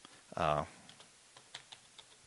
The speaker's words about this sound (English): So if I go over here and say, you know, just normal typing, you know.